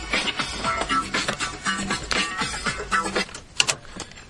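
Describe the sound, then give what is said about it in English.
A steering wheel lock, the Club, is worked loose and pulled off in a car after the driver arrives home, with metallic rattling and scraping, steady shuffling handling noise, and one sharp clack near the end. “There goes the club.”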